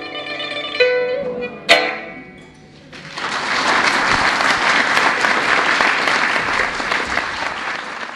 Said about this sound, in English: My pipa performance is applauded, and the people seem interested in this ancient Chinese instrument.